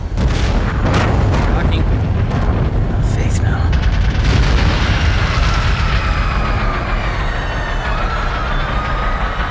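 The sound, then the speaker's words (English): A loud explosion on a great ship, something striking one of its four anti-grav fans, erupts with sharp cracking bursts in the first few seconds, then a heavy, continuous rumbling roar that sustains steadily until the end. “There's been an explosion.”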